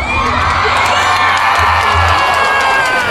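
Loud, continuous applause and cheering from a crowd, a dense wash of clapping with shouts and whoops layered over it, steady throughout with no talking.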